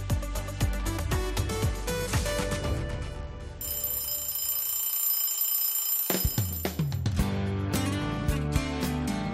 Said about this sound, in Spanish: Suena el ring, suena la campanilla de Iberitos.